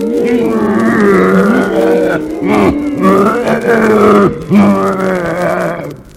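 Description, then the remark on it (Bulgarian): A bear growls and roars loudly, a deep, rumbling snarl rising and falling over several seconds with brief pauses between drawn-out bursts. “Е, каква беше тази страшна мечка, която изяде всичките ми коне и волове?”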